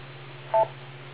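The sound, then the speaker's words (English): A single short ham radio repeater beep, a bright two-tone chirp lasting about a tenth of a second, rises briefly above a steady low electrical hum and background hiss. “And wait a couple of seconds after the beep”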